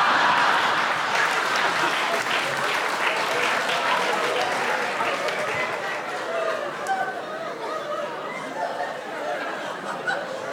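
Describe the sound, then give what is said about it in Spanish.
A crowd applauds steadily for about ten seconds, the dense clapping loud and sustained, with scattered laughter and chatter mixed in before it slowly thins toward the end. “Ustedes se dan cuenta de lo que acaban de aplaudir, ¿no?”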